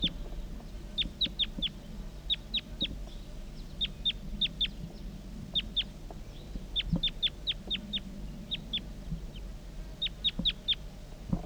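A wild female crossbill calls with short, high-pitched chirps in quick bursts of two to four, repeated steadily over a low background rumble, with no voices.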